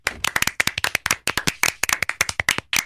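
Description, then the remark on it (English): Hands clapping in a quick, slightly uneven burst, around two dozen sharp, bright claps in three seconds, steady in loudness with no voices underneath. “But you can clap at the end of podcasts.”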